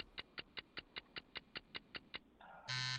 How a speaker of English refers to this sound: Ooh. There it is. There's the buzzer.